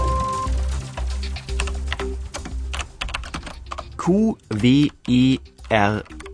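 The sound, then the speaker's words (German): Rapid, irregular clacking of keys on a computer keyboard, fairly loud. Toward the end a voice speaks in short bursts while the typing fades. “Die meisten, die irgendwann das Tastaturschreiben lernen, fragen sich, woher kommt diese scheinbar vollkommen unlogische Anordnung der Tasten?”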